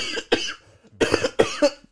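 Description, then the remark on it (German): A harsh coughing fit: two quick coughs, a brief pause, then a rapid burst of three or four more hacking coughs in a row, loud and raspy with no talking. “Jetzt muss ich husten.”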